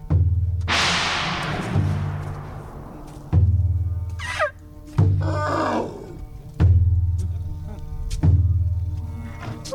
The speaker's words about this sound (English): The pachyderms have been trained to create their own music using tools confiscated from illegal loggers.